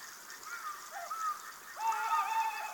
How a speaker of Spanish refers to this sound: Ulula un cárabo.